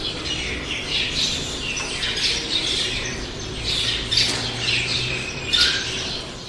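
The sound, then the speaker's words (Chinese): A flock of small birds in a castle garden squawks and chirps in a busy, overlapping chorus as they fly away, continuing throughout, with a few sharper, louder calls bursting out near the end. No one speaks. “但系住喺城堡花园里边嘅小鸟一见到佢，就即刻飞走咗啦。”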